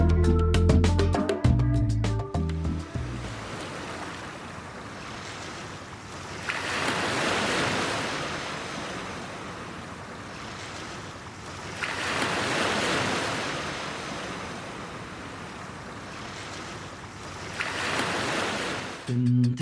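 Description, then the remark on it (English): Ocean waves roll in and break on the shore in slow, rhythmic surges about every five seconds, each swelling into a loud hiss and fading, after a brief snippet of music at the start. “Down by the ocean we go.”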